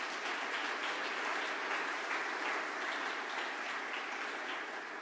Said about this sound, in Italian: Un applauso per le minoranze.